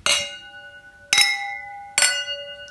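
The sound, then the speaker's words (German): Three bright clinks of wine glasses touching in a toast, each ringing out with a clear, sustained tone that slowly fades, fairly loud with no talking. “Ah, wie ein Glockenspiel in meinem Ohr.”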